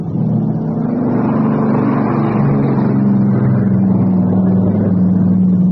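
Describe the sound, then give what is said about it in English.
A Catalina coastal patrol plane's engine drones steadily overhead, a loud, low, continuous roar with a slightly wavering pitch as it circles back. No voices are heard. “It's a plane, and it's heading this way.”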